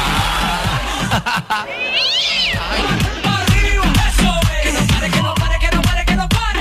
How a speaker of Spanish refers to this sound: ¡Oh, miau!